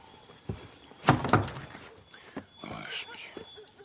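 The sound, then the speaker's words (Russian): A few sharp knocks on a neighbour's door, fairly loud, come in a quick cluster after a single tap, with faint voices and room noise around them. Gotsman is knocking at the house where Nora lives. “Стучит в дверь соседу.”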